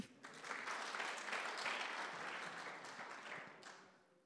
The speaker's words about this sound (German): Ja, gib mal einen Applaus hier.